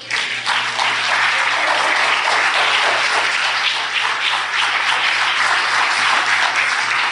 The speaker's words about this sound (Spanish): Es más, yo creo que eso se merece un aplauso al Señor.